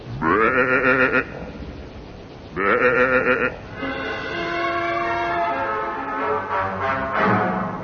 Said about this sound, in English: Well, is nothing sacred? Doesn't this sheep know he's eating a national monument?